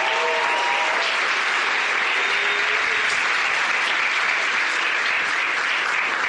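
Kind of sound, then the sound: crowd, loud applause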